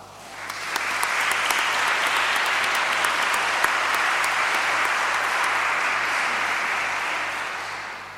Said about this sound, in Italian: accompagnato all'organo dal maestro Roberto Brisotto, a cui va il nostro applauso.